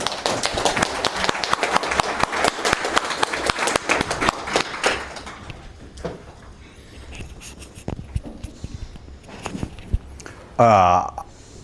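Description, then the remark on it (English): An audience of about 50 at a Puppet gathering breaks into a round of applause for special guest Luke Kanius, the original inventor of Puppet, a dense burst of many hands clapping that thins out into scattered claps after about five seconds, followed by a short tonal squeal. “So give a big round of applause for Luke Kanius.”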